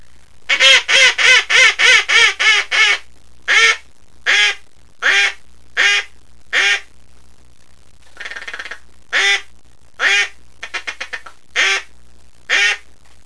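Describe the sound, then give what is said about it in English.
A baby Magnum double-reed duck call blown loud: a fast run of about eight raspy quacks, then slower single quacks spaced out, with a brief buzzy chatter partway through. No talking. “Here's a baby Magnum duck call with a double reed.”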